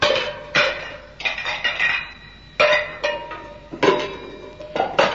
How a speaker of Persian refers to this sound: بله بازم بنا کرد ظرفای آشپزخونه رو این طرف و اون طرف پرتاب کردن.